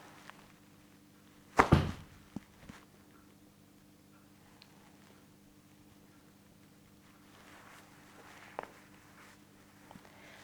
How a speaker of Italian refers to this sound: Con la mano prendete i pantaloni e sollevate la gamba, lasciate che la gamba venga sollevata proprio dalla mano e poi lasciate cadere la gamba. Sentirete un botto del piede, la pianta del piede che cade sul pavimento, e lo fate un po' di volte.